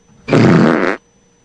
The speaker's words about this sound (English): Did he fart at the end? Yeah. Woohoo! Do you hear that? Like, probably jumped up and... And woohoo! Farted a little bit. A little bit. A fart.